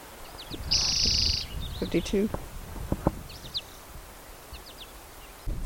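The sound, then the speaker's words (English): A bird sings in short bursts: a sustained high, buzzy trill early on, then scattered quick chirps, over faint rustling and a few soft knocks, with no talking. “The previous bird was collected, and I collected it upstream from where I first recorded it singing, so probably on its own territory, but trying to maybe move into the vacated male territory.”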